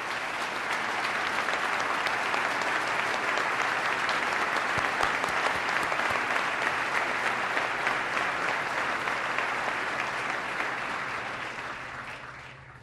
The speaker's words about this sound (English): I'd ask him to stand so we can give him a round of applause.